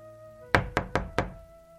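An old man knocks four sharp times in quick succession on the low, crooked wooden door of a cabin, fairly loud, with a soft steady hum in the background and no one speaking.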